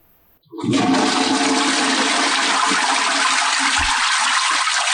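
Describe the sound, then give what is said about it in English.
A loud toilet flush sound effect introducing the Tech Flush Tip of the Day segment roars in suddenly after a brief quiet moment and keeps rushing steadily to the end, a broad watery whoosh with no voices over it. “the Tech Flush Tip of the Day.”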